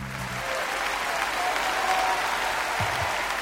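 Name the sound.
applause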